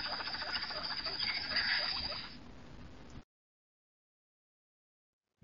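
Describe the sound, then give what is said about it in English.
A male guinea pig interested in a female purrs at her, a low, rapidly pulsing rumble that lasts about three seconds with a faint steady high whine over it, then silence. “Here is the purring sound of a male interested in a female.”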